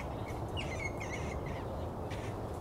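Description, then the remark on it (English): Several short, high-pitched squeaks and chattering calls come in quick bursts over a steady low background rumble, sounding almost birdlike, as squirrels squeak at each other while wrestling. “The squirrels having a little wrestling. You can hear them squeaking at each other.”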